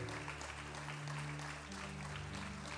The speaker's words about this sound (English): Oh, look at the men come. Sisters, give them a hand clap. Oh, look at the men.